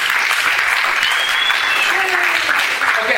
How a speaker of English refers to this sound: By the way, when you guys like things, you can laugh at jokes and you can clap a lot.